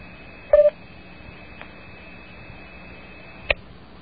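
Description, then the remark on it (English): A steady telephone dial tone hums throughout, broken by a quick burst of three touch-tone dialing beeps near the start and a single beep later, with no voices, as a call to a 257 number is tried from area 408 but will not go through. “I have a dial tone here, but it will not go to 257.”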